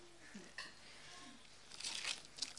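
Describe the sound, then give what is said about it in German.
Quiet papery rustling of book pages being turned while looking for verses, a brief flip early on and then a louder, denser flurry of crinkly page sounds near the end, with no talking. “Okay, wir bleiben mal in Hebräer, weil das am nahesten, da müssen wir am wenigsten blättern.”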